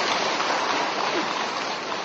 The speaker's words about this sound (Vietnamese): Cho một tràng pháo tay tặng cho anh.